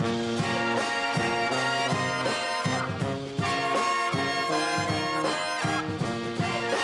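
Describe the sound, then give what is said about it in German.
A brass band that combines brass music with rap plays loud in a Munich subway station, with punchy rhythmic chords and steady beats repeating through the whole stretch, rich harmonies filling the sound with no clear voice on top. “Sie kombinieren Blasmusik mit Rap.”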